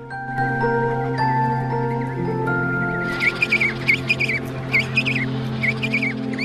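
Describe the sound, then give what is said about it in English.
A young chick chirps in a quick series of short, high calls while nodding its head up and down, starting a few seconds in over a steady bed of sustained musical tones. “Then he chirps and nods his head up and down.”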